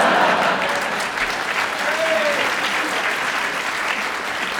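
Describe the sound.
A live audience claps steadily in a sustained round of applause, after a panelist offered his buzzer to a woman in the front row, dense and fairly loud, with scattered cheering voices woven through the crowd noise.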